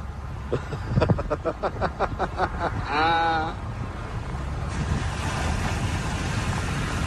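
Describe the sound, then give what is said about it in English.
Motorboats, including a lifeguard boat and a sheriff boat, roar across the water as two huge boats move to cut off another boat, their engines thrumming in rapid pulses, a brief wavering whine rising over them before settling into a steady, rushing drone. “A lifeguard boat and a sheriff boat. Two huge boats to cut them off.”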